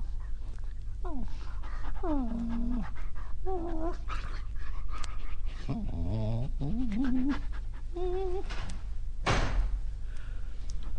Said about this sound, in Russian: Ой, ах ты, боже ты мой! Да где ж тебя так-то? Ой, ты собака, несчастная собака. Ой, сейчас пущу тебя домой.